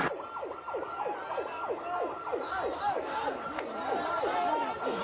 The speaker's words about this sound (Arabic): إسعاف يا ناس.